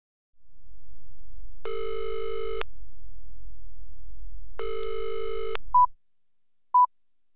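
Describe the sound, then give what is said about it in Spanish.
A telephone rings twice in long, evenly spaced buzzing bursts over a low line hum, then goes quiet except for two short, clear beeps, as when a call rolls to voicemail. “Como no coges el teléfono, te dejo este mensaje.”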